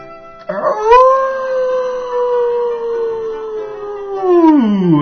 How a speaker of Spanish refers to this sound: «Tú no eres amigo. No eres más que un adulador que mueve la cola», aulló el lobo.